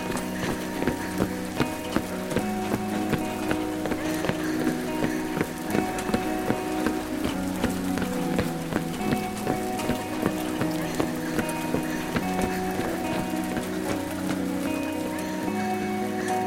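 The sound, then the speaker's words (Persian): Steady rain patters continuously throughout, with scattered droplet taps, mixed with a sustained melodic music bed at moderate volume and no talking. “از نشستنهای طولانی توی کافه بگیر تا راه رفتن زیر بارون.”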